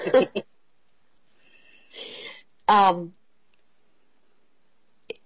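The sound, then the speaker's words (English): A raspy bout of coughing from a sick woman, brought on by laughing: a couple of quick harsh coughs, a wheezy breathy one, then a strained voiced hack, followed by near silence and a tiny click. “I'm laughing at you guys, and it's making me cough.”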